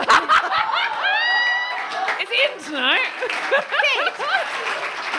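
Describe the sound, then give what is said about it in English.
A crowd bursts into loud, sustained applause mixed with laughter and high, whooping cheers that rise and fall, filling the space for several seconds, in response to a joke. “That got such a big round of applause.”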